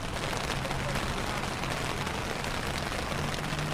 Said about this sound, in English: Last Thursday, outside of HealthRight Wheeling, the skies opened and it poured.